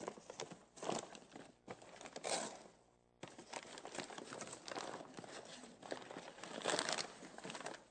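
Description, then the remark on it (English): Paper crinkles and crumples in continuous bursts, fairly loud, with a brief pause partway through before the rustling resumes, as wrapping paper is scrunched and pulled from inside a box while it is being unwrapped. “Okay, but what have you found inside the box? Wrapping. Some more paper.”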